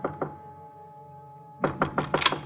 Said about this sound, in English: I went up the stairs, but when I knocked at his door...